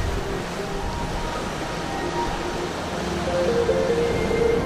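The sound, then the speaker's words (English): A steady, broad roar of ocean waves surging and breaking, swelling slightly louder toward the end, with no voices present. “There is beauty in the power and ferocity of the sea, and also in its gentle ebb and flow.”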